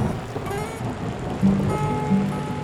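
Steady rain falling, a continuous dense hiss of drops with a low rumble underneath, moderately loud, with no voices.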